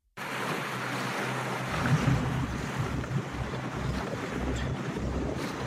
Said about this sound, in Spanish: todo preparado, la hoja de ruta planeada y el material en su punto, el barco sale de puerto rumbo al mar de Alborán. Parece que el mar ha dado tregua